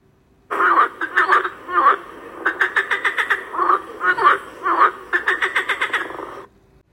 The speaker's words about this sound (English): It is a frog.